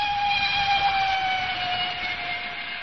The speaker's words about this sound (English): It was a non-corridor train.